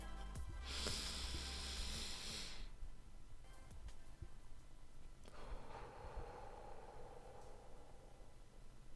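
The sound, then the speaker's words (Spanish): A slow, deep breath demonstrating a breathing technique for calm: a long, airy inhale lasting a couple of seconds, a pause, then a softer, lower, drawn-out exhale, with no talking. “Bueno, si quieres, hago una respiración para que veas cómo sería una que suelo yo utilizar, que es esta.”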